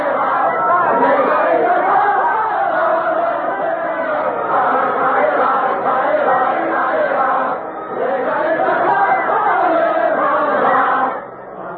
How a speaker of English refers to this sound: It's Ça Ira, an old French dance to which revolutionary words have been set. They're singing about hanging all aristocrats from lanterns.